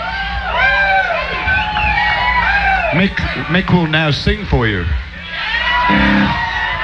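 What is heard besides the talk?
audience cheering enthusiastically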